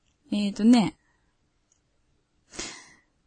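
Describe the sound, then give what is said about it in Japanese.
A chair creaks as someone sits on it: a loud, strained, tonal creak lasting about half a second, then silence, followed by a softer, rougher creak that fades out. “一時うるさいな、ごめんなさい。ギシギシ言ってるな。”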